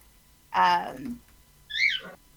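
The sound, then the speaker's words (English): Two separate warbling, bird-like calls, apparently made by a human voice imitating a bird. The first is fuller and lower, and the second is a higher whistle that swoops downward. Both are fairly loud. “So, was that a bird I heard?”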